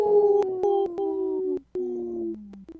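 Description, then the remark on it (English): A person imitates a wolf howl on a radio show segment supported by Howling for Wolves: two long, loud, sustained tones that slide slightly downward, with a brief break between them and a short trailing note at the end. “Good howl.”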